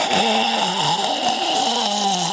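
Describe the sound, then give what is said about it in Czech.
A coffee machine steaming milk for a cappuccino: a loud, continuous hiss with a rough, droning low tone that wavers slightly in pitch throughout, no voices. “Kávovar. Kdo měl to kapučíno?”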